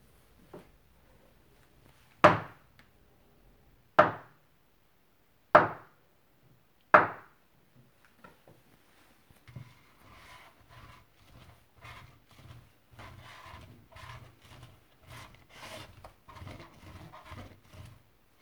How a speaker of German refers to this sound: Teilt den Teig in 6 Portionen und rollt diese nacheinander zu runden Platten aus.